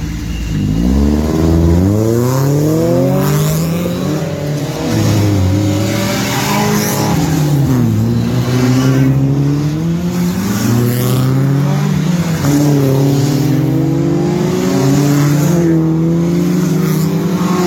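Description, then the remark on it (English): Several TCR touring race cars head out to qualify, revving and accelerating together, their overlapping engine notes climbing and dropping in pitch with each gear change, loud and continuous throughout with no talking. “And we've got a video of them going out to qualify, I believe.”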